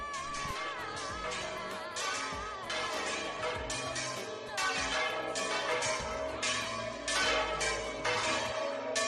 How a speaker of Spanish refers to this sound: El pasado lunes las campanas de muchas zonas de la España vaciada sonaron al unísono con motivo del 31 de marzo, que es la fecha del Día Internacional contra la Despoblación.